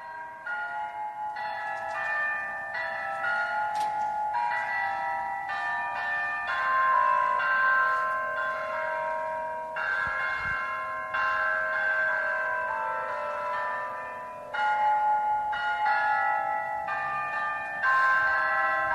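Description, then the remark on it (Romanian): Eight bells in a clock tower, tuned to 8 musical notes and rung through wires at every full hour, ring out a steady melody, one struck note after another with ringing overtones, fairly loud with no voices. “la fiecare oră fixă, aceste clopote fiind acordate pe 8 note muzicale, reproduc Hora Unirii”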